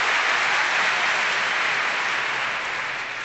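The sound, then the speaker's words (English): An audience at an evening show claps steadily as names are introduced. It is a dense, continuous wash of applause with no voices, holding an even loudness before easing off slightly at the end. “So, hold the applause till the end, please.”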